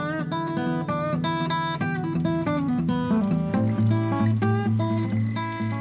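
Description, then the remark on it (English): A bicycle bell rings in Ferrara, Italy, over and over in quick, bright metallic dings, the tones overlapping into a steady jangling chatter that stays loud for several seconds, with no voices. “Oops! Watch out for that bicycle!”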